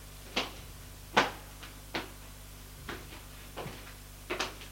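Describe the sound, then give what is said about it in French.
A door opens and closes as a woman goes through it and a man follows her, heard as a string of sharp clacks and thuds spaced irregularly over a steady low hum with no one talking. “Elle va vers la porte. Il la laisse passer.”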